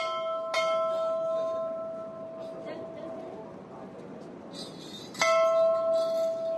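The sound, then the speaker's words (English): An old bell just beyond a temple by the Ganga, marking the spot where Bhagirath is said to have meditated, is struck twice, several seconds apart, each clang ringing out with a long, shimmering decay over a steady background of faint murmuring voices. “Just beyond the temple, an old bell marks a spot where Bhagirath's supposed to have meditated standing on one leg for 1,000 years.”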